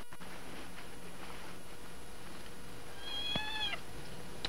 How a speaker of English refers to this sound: Beaver, cut it out. Cut what out? Making that cat noise.